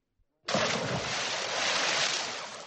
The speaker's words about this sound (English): Then Beowulf dived into the foul water.